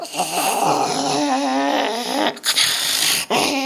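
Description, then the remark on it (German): A harsh, raspy creature scream wavers in pitch, loud, broken by two sharp gasping breaths before the shrieking resumes. “Und dann höre ich diesen abartigen Fänger, dieses Schreien, dieses Keuchen, dieses”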